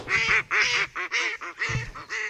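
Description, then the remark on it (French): A run of loud, nasal duck quacks, about six in quick succession with short gaps, with no talking over them. “Vous avez entendu quelques canards passer.”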